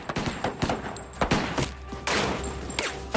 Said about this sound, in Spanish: Todos los sospechosos salieron de la caja disparando. Los cartuchos de 6 disparos de los oficiales rebotaron en los chalecos antibalas que llevaban todos los de la banda.